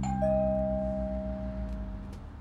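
doorbell ringing

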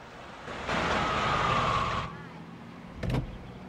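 truck passing by

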